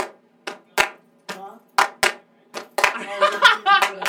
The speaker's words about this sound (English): Oh yeah, I think we need to do a clapping yeah, track need, and a singing track. We need to clap first. Alright, we'll do a clap track and then. I like that clap though.